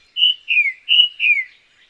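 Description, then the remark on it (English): A tufted titmouse sings a variation of its song: a clear whistled phrase repeated twice, each a steady high note followed by a downslurred note, bright against a silent background. “But titmice are like jazz musicians, endlessly able to improvise on a simple theme.”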